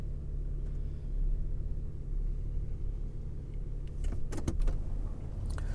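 A truck engine rumbles steadily at idle, then a short burst of mechanical clunks and rattles as it is shifted into drive with no warm-up, to pull it out of a shed. No one speaks.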